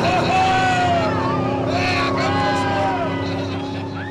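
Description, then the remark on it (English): Several lobster boat engines roar loudly and throttle up together at the start of a Maine Lobster Boat Racing Association race, as the flag drops and the captains hit the throttle. Their pitch climbs in overlapping sweeps over a steady low drone, with faint crowd babble underneath. “When the boats pull into line, the flag drops, and the captains hit the throttle.”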